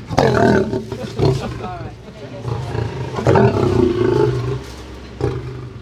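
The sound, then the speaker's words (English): An Asian lion roars and growls about 1 meter away while being fed, in a few deep, rumbling bursts, with snarling rasps between the louder calls. “Now we're just feeding a lion. I'm about 1 meter away. Lucifer's an Asian lion.”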